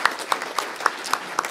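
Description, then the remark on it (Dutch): A crowd applauds steadily, a dense wash of clapping punctuated by sharper, regularly spaced claps about four times per second, with no voices. “Applaus.”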